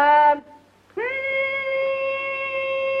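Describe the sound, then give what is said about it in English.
A voice imitates a hummingbird call: a short reedy note, a brief pause, then a long steady high-pitched tone held for about two seconds, fairly loud and alone. “What was that? Hummingbird.”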